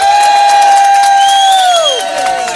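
Loud, steady audience applause with cheering, dense clapping throughout and a long high-pitched whistle or whoop that holds and then slides downward near the end.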